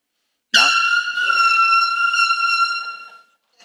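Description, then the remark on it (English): A single loud air horn blast starts abruptly and holds steady for nearly three seconds before cutting off, piercing, with no talking over it. “That's just an air horn.”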